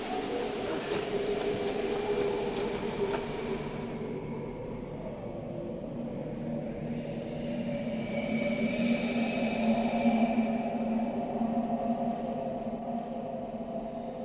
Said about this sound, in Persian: از آسمان و زمین شن میبارد، راهی نیست جز این که بمانیم تا توفان بگذرد.